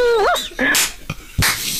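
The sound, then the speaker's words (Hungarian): A man imitates a whimpering dog with a few high, wavering whines, followed by a breathy snort-like burst, fairly loud with no talking. “a hang alapján jó! Nagyon, kutyának nagyon jó lenne.”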